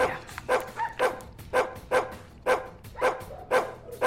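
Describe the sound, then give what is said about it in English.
A dog barks repeatedly in a steady rhythm, about eight sharp barks over four seconds, clear with no talking. “Do you think we should get dog training?”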